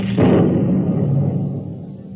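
A sudden, loud crash of a lightning strike bursts out near the start, then rolls into a heavy, low rumble that slowly fades over the next two seconds, with no voices.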